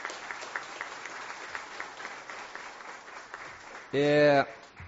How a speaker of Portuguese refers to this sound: eu gostaria que nós dessemos uma salva de palmas para ele.